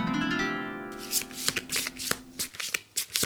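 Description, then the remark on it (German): Tarot cards are shuffled by hand: a smooth riffle at the start gives way to a run of crisp, irregular snaps and flicks as the deck is worked through before the next card is drawn, with no talking. “Okay, in der Hoffnung, dass es mich rettet, ich ziehe gleich mal die nächste Karte.”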